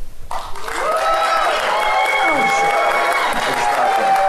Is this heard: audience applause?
yes